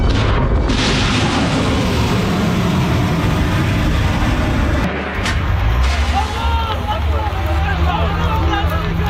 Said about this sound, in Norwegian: Explosions were then being heard across Sana'a, the capital city.